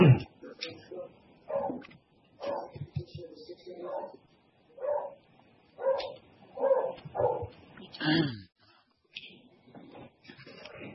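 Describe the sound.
A dog barks repeatedly in short, rhythmic bursts, fairly loud, with a few higher yips mixed in, while people talk faintly in the background.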